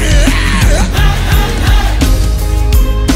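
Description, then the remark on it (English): A large crowd shouts together loudly and continuously, answering a call to yell "kill him" at the devil, their voices blending into a roar over a steady, thumping musical beat. “Somebody say, kill him. Yell it loud unto the devil.”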